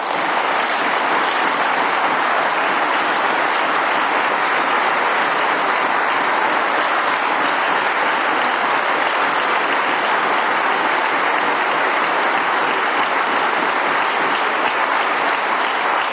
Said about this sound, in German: Ich billige Ihren Beifall an der Stelle, Herr Barzel hat manchmal meinen Beifall.